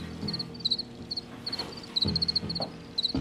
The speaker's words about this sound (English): I read about like a longstanding colony of crickets in the Paris metro that people feel very fondly towards. And there was an organization that was even lobbying the city of Paris to declare this one metro stop a national park.